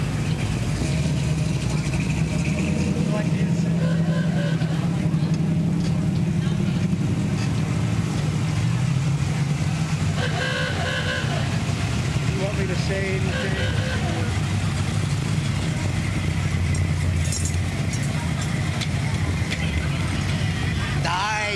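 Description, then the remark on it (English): A car engine idles at a car show with a steady, low rumble for the whole stretch, shifting slightly as the vehicle maneuvers, with some muffled voices and outdoor noise mixed in. “I thought you were gonna back up to that car.”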